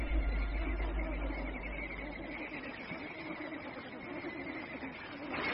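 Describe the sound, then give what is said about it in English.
A large flock of flamingos in the high mountains calls continuously, a dense, overlapping chorus of nasal honks and grunts that stays steady and fairly loud throughout, with a low rumble at the start. “Up here, there are few other creatures to bother the flamingos, but then few other creatures could even tolerate these conditions.”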